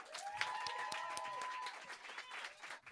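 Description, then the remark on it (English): A crowd applauds steadily to welcome a performer to the stage, dense overlapping claps forming a continuous wash of noise, with a few whoops or cheers rising briefly above it before the clapping thins toward the end. “So please start clapping now, and don't stop until she gets here.”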